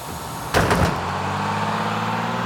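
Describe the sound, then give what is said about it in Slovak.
A bus door opens with a short whooshing hiss and clunk, then a steady, low idling engine rumble continues as a passenger boards the first bus heading toward Serbia. No voices. “Nasadá na prvý autobus smerom do Srbska urobiť doma poriadky.”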